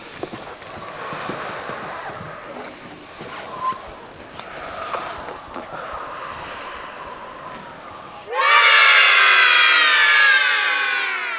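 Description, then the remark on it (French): Several children doing the lion-breath yoga breathing exercise breathe in deeply, a few noisy breaths in a row, then burst into a loud, sustained shout together that lasts a few seconds until the end. “La respiration du lion. On respire trois fois et après on crie.”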